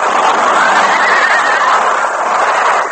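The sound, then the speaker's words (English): Several stagecoach horses whinny and neigh in a loud, continuous, frantic tangle of shrill cries over a rough noisy wash, with no one speaking. Bullets wound one of the lead horses, the other horses pile up and the stagecoach turns over. “Bullets wounded the fourth guard and one of the lead horses on the coach. As the wounded animal fell, the other horses piled up, and the stagecoach careening turned over.”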